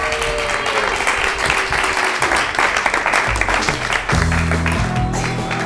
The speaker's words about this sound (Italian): Ragazzi, fatevi un applauso, bravi!